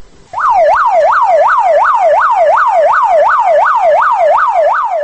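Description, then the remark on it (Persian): An ambulance siren wails in a rapid, steady up-and-down yelp, loud, repeating about twice a second with no one speaking over it, as a private emergency ambulance drives toward a hospital in Khujand, Tajikistan. “ماشین یاری طبی تجلی صدا می داد که سوی بیمارستان خوجند حرکت می کرد.”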